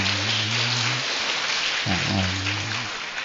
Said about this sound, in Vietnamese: Nó quý vị cho tràng pháo tay thật là lớn.